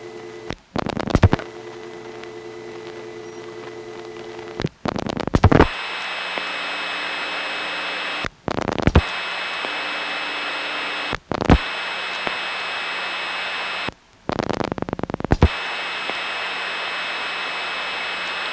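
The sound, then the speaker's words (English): Steady hissing noise on an analog N3 carrier Dallas phone trunk between step-by-step offices, heard after dialing six digits of a number, with faint humming tones underneath, broken every few seconds by brief crackling bursts and shifts in the hiss. No voices. “step and end carrier from one step office to another is that since it's step, you can dial 6 digits of the number and then sit there listening to end carrier as long as you like and then start it ringing on a moment's notice by dialing the 7th digit.”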